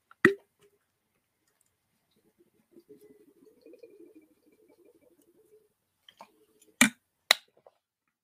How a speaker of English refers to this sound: Hold on a second as I drink a sip of water. Stay with me.